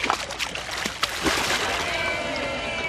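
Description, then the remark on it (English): A turtle, freed and let back into a river, splashes into the water, a few quick splashes followed by steady sloshing and flowing water, with faint outdoor background noise. “the turtle is free and let back into the river.”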